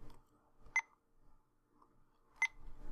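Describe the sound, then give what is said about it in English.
Two short, sharp electronic beeps about a second and a half apart from a timer being paused for a break, clear, with faint background noise between them and no talking. “Where's the timer?”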